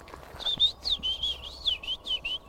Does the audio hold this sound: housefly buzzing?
no